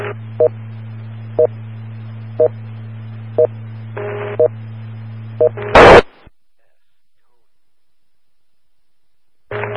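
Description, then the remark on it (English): Radio net alert tones sent by station KB8DXE for Cuyahoga County Skywarn: short, evenly spaced beeps about once a second over a steady low carrier hum, ending in a loud burst of static and then sudden silence. “KB8DXE with tones.”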